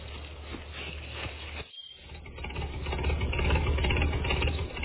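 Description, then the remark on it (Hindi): A tractor engine idles with a steady low chugging rumble, cutting out for a moment before returning slightly louder and rougher, with no one talking; the tractor is being brought out to go to the doctor. “Guddu tractor निकाल, doctor के पास जाना है। जी चौधरी जी, मैं हूँ ट्रैक्टर लाया।”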